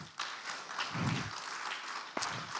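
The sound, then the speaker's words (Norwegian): An audience breaks into steady applause for a young man who is new at his job, many hands clapping in a dense, crackling wash that holds at an even level, with a few sharper claps standing out near the end. “Gi han en ekstra applaus.”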